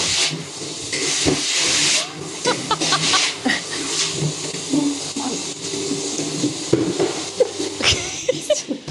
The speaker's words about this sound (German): Das ist ein Staubsauger, der ist ganz leise. Ja, ja, das ist schon das leise Silent. Modell, gell? Ja. Das ist so laut.